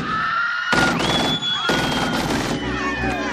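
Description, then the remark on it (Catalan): Bursts of gunfire from the soundtrack of the 1991 film Boyz n the Hood by John Singleton, set in South Central Los Angeles: two loud volleys of rapid shots close together, with a high whining tone and busy background sound running underneath. “Trets, un barri marginal, aquesta veu profunda.”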